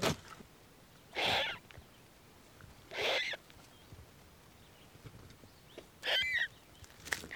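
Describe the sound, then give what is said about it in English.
Two fluffy little turkey vulture chicks, just a few feet from an entrance, give three harsh, breathy hissing calls, each about half a second long and spaced a couple of seconds apart, against a quiet, faintly noisy background with no talking. “And right there, just a few feet from the entrance, two fluffy little turkey vulture chicks.”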